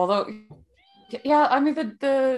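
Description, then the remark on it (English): A cat meows three times in quick succession in the background, drawn-out and fairly loud, with short pauses between the calls and a faint tone lingering in the gaps. “Is that, oh my God, is that your cat in the background?”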